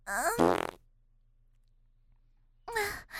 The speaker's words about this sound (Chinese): 讨厌，这样又放屁又抠屁股的真是烦死人了。